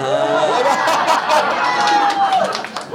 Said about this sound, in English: Oh, they cheered for your choice.